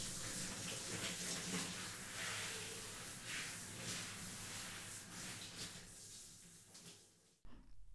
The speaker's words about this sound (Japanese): まずはしっかりと流していきますね。こうやってあらかじめ汚れはお湯で落としておくと、シャンプーの泡立ちも良くなりますから。